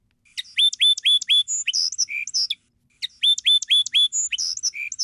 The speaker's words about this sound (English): The first sound of that song sparrow was less attractive than the second?